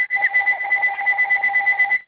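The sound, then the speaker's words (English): A phone rings with a steady electronic two-tone warble, high and fairly loud, pulsing rapidly for about two seconds with no voices over it. “Your phone is ringing, somebody.”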